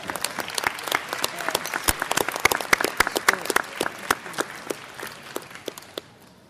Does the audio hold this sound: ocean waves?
no